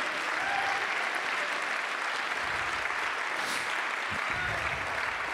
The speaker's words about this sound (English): Praise God. Let's clap our hands at God and give Him praise.